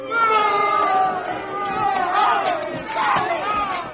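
A crowd boos loudly and steadily, many overlapping drawn-out voices blending into a continuous jeering roar that swells slightly near the end, with no clear speech.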